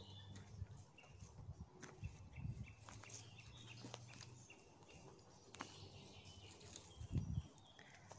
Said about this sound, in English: Lots of lovely bird sound as we walk through the woods. I can hear a blackbird with all sorts of different calls coming out of it. And a robin on my left, or behind me now, and in the distance I can hear a chaffinch as well.